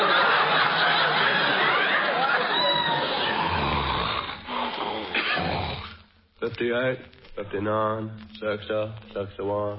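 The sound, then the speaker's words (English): A man snores with long, loud, raspy breaths for several seconds, then breaks into drowsy, wordless mumbling in uneven, slurred bursts, as if talking in his sleep. “He's talking in his sleep.”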